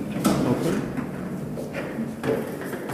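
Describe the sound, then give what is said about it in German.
Furniture being carried out of old rooms, with a few scraping, sliding and knocking bumps at irregular intervals over a steady background murmur, moderately loud and slightly reverberant. “Zufällig wird in den alten Räumen gerade Möbel abtransportiert.”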